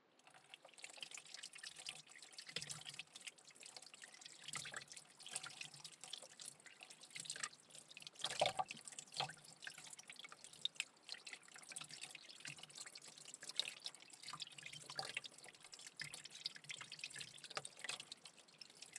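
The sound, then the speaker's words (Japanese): Cooking utensils being lightly rinsed under a running kitchen tap after cutting burdock root, with steady splashing water and occasional clinks and drips, moderately quiet, no voices. “切り終わったら具材のための水にさらして軽く調理器具を洗わないとね。”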